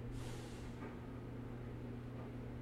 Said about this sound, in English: There's the grocery, not the grocery, there's the garbage truck. There's the garbage truck coming.